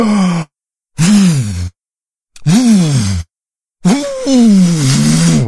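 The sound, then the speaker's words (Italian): A voice imitates the wolf in the Three Little Pigs story, filling its lungs and blowing even harder at the wooden house: four loud, breathy, groaning puffs separated by short silences, each with a rising-then-falling voiced tone beneath the rush of air. “Allora il lupo si arrabbiò, riempì i suoi polmoni e soffiò ancora più forte.”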